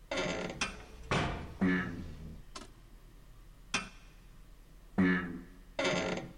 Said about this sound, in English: The engine is sputtering. It's not running with full power yet.